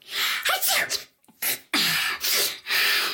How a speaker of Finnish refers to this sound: Kuulitko tuon äänen? Voin soittaa sen tästä uusintana. Kyllä, se oli ihan oikea aivastus. Ja kuten tiedät, välillä ärsyttävä flunssa saattaa alkaa juuri tuollaisella yksittäisellä aivastuksella.